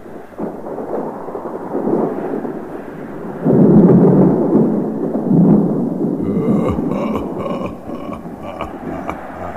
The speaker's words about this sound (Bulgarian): Тази страна на Шварцвалд, където живея, никога не се е извивала такава страшна буря.